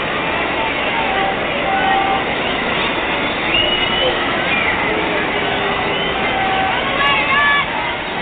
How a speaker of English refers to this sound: Low. Ball two. The crowd is reacting negatively. They want to see Maris get something he can swing on.